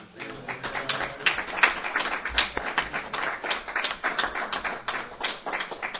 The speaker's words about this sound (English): I think we probably should give them a round of applause for their great work.